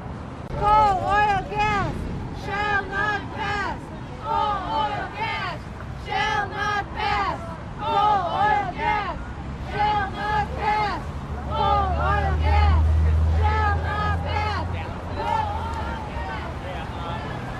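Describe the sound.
Steady crowd chatter fills the scene outdoors, with a low engine rumble from a Coast Guard patrol boat and multiple police boats on the water swelling briefly partway through beneath the voices and light wind.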